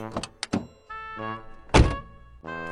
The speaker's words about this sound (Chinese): 司机打开汽车后门说， 女士们请上车。